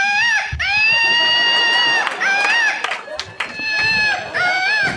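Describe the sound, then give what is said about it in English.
A patriotic Woot Monkey toy with an American flag on it shrieks loudly after its rip cord is pulled, a shrill, wavering electronic scream repeating in several sustained bursts with brief breaks between them. “I'm going to pull the rip cord that makes them scream.”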